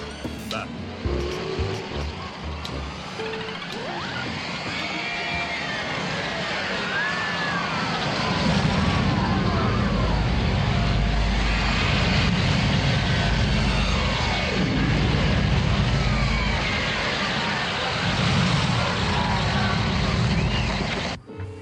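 A roller coaster ride: a continuous rattling roar with swooping, rising and falling high tones, and a heavy low rumble that surges in about a third of the way through and stays loud.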